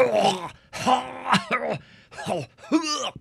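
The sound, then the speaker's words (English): A voice imitates the wet, gurgly cough of someone with mucus in their lungs: about five rough, groaning bursts in quick succession, fairly loud, with no other sounds around them. “So if you've got all this mucusy stuff in your lungs and you sound like...”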